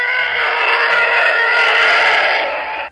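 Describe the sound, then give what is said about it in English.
A TIE fighter flyby sound effect, made by sound engineer Ben Burtt from elephant noise mixed with cars driving on wet pavement: a loud, harsh, howling scream that holds steady for nearly three seconds before cutting off abruptly, with no voices. “Well, surprisingly, Ben Burtt, sound engineer, used elephant noise mixed with cars driving on wet pavement.”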